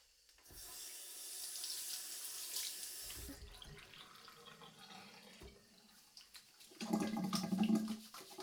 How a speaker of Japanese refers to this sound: じゃあ一緒に洗いましょうか。子供が真似しても大丈夫なしっかりした手の洗い方で。せっかくですから覚えていってください。